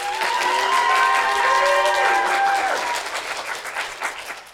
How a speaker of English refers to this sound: I appreciate everyone attending. And then a great round of applause.